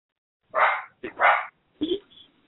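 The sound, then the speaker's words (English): A dog barks three times in quick, uneven succession, loud, rough mid-pitched barks with short gaps, the last one shorter and trailing off into quiet. “Dog barking or something.”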